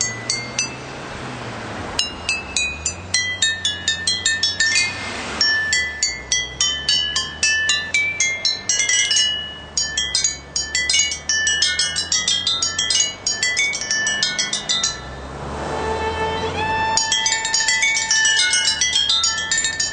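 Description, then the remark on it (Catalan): Glass bottles are struck in a quick melodic pattern, ringing clinks forming a tune over a low steady backing, loud, with no one talking; from an Audi car advertisement. “Això és que són els audis, són tals cotxes impressionants que poden tocar això, un Audi amb ampolles, no, Cristina?”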